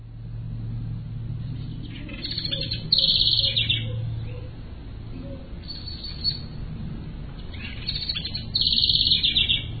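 A bird calls over and over in high, bright bursts, repeating every few seconds above a steady low rumble of traffic or engine noise in the background.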